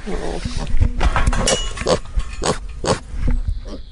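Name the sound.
pig grunting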